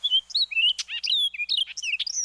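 orchard oriole song

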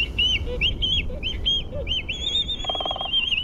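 black-footed albatross calls

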